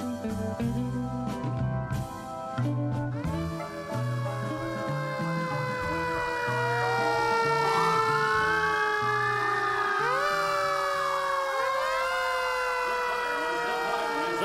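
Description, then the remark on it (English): After a few seconds of low engine rumble and clatter, a fire truck siren wails loudly, its pitch sweeping up and down in long arcs over the steady rumble. “The fireman's howl. Ah, a beautiful wail.”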